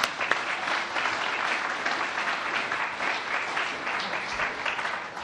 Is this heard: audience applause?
yes